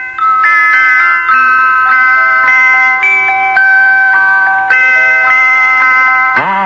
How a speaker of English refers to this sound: It had little bells all around it, and when the pot boiled, it played a little tune.